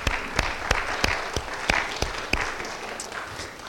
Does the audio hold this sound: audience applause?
yes